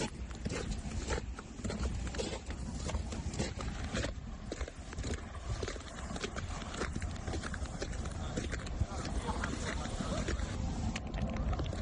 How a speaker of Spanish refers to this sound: Granizo del tamaño de pelotas de ping-pong es lo que vivieron ayer los vecinos del municipio albaceteño de Villatoya. Así sonaba pisar el hielo caído del cielo.